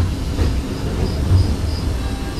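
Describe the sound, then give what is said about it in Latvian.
A train travelling to Majori, Latvia, rumbles along the rails with a steady low roar, faint rhythmic clatter, and thin high squeals from the wheels, with no voices. “Citā reizē uz majoriem atbrauc ar vilcienu.”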